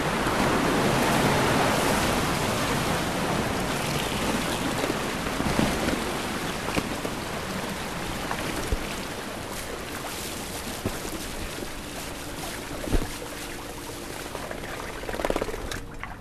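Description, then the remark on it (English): Fish and water released from a truck's tank by pulling up a gate valve, in cold, rainy weather: a steady, loud rush of water pours continuously down the chute through a collapsible hose, a broad hissing gush that eases slightly over time, with a few brief splashes and knocks near the end. “All right, now we're pulling up our gate valve, and that's going to release the fish from the truck.”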